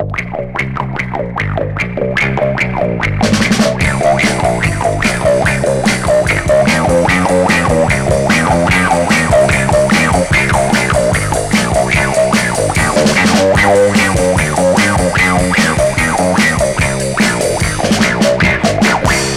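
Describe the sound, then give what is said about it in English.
A funky bass guitar line played through a wah-wah pedal, its tone sweeping in a steady, bouncing rhythm. It plays loud and continuous, with brighter accompaniment joining after a few seconds. “And listen to the funky bass guitar sound you get with the wah-wah pedal.”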